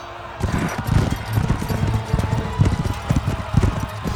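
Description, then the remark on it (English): Horses' hooves clip-clop in a steady, uneven rhythm, fairly loud, as five men ride horses with golden bridles. The hoofbeats begin after a brief quiet moment and continue throughout with no one speaking. “Now, when the battle became fierce, there appeared to their enemies from heaven 5 majestic men riding on golden bridled horses.”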